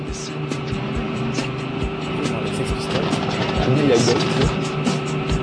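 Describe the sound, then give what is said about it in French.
A steady car engine drone with sustained tonal whine, revving slightly louder toward the end, from a slow-motion replay in a racing video game after a fast start; a voice talks intermittently over it. “Regardez, voilà les gars dans la voiture. J'ai mon démarrage en trombe.”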